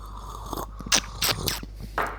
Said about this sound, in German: Ich glaube, das ist auch extra lecker, sich das anzuhören, wie wir schlürfen.